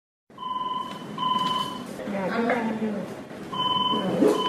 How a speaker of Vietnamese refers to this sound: Chuông điện thoại tổng đài trung tâm cấp cứu 115 thành phố Hồ Chí Minh reo vang.